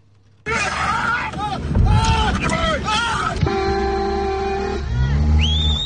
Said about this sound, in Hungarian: Jabálással és tülköléssel próbálják elzavarni az anyamedvét, amely rátámadt egy autóban ülő emberre.